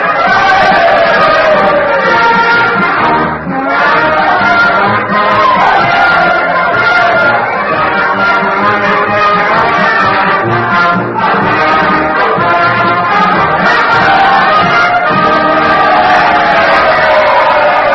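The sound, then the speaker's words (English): A dense, loud crowd roar fills the whole stretch, a steady wall of many voices shouting and cheering together without letup, overwhelming, as the Union Band plays Dixie at Mr. Lincoln's request at the end of the war. “Well, I hope you can hear me above all this din.”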